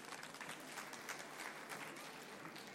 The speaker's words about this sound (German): Einen herzlichen Applaus nochmal.